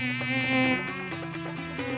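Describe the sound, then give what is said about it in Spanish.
A housefly buzzes steadily in a studio for the whole stretch, its droning hum wavering slightly in pitch as it moves, with no voices present. “no nota la gente que hay una mosca. Muy pesada.”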